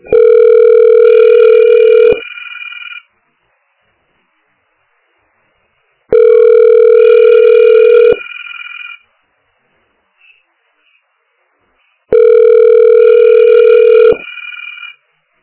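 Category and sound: signal or alarm, telephone ringing tone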